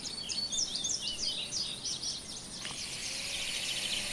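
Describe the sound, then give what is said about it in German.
Birds chirp and twitter in quick, repeated high notes outdoors on the grounds of the new Berlin airport BER, over a soft steady background hiss that grows slightly brighter toward the end. “Anstatt dröhnender Flugzeuge sind zwitschernde Vögel zu hören.”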